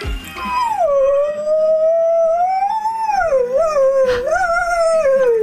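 A dog howls in one long, sustained, wavering cry that rises and dips in pitch, loud and close, with faint music playing underneath throughout.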